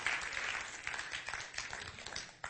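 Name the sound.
audience clapping hands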